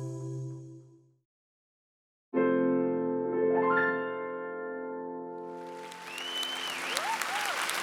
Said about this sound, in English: Applause erupted in the crowded East Room of the White House in Washington, D.C.